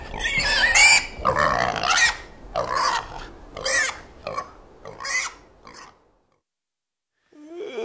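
A pig grunts and squeals in a rapid series of about seven loud bursts, then falls silent, with a faint new sound starting just at the end.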